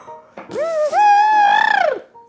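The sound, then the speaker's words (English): A person imitates an elephant's trumpet with one loud, sustained, brassy blast that rises in pitch, wavers, and breaks into a rough, fluttering edge before cutting off. “It simply made a loud trumpeting noise.”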